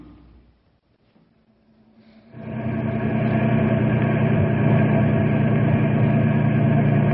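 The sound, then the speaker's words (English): A quiet lull gives way to a vehicle engine rumbling as it drives up to a broken-down truck caravan, settling into a steady, loud idle with a deep, even hum that continues without pause. “Alexander Peabody was in charge of the caravan, and he met us as we drove up to find out what we could do to help.”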